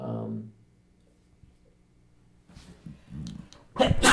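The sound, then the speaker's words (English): A sudden, loud sneeze bursts out at the very end, following a stretch of near silence and some soft, low voices murmuring. “Bless you.”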